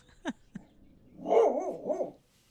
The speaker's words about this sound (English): Okay. Do you mind not barking right now? Oh, I'm sorry. Now you're going to growl. Would you growl on mic, please?